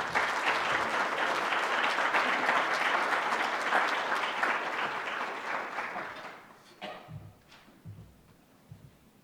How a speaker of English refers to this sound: And so could I ask you, with your applause, to please welcome and thank Larry Summers for being with us.